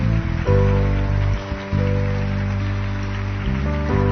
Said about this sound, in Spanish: De un fuerte aplauso al Señor.